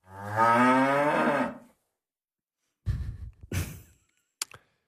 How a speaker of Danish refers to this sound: Det er altså hyggeligt med en ko, ikke?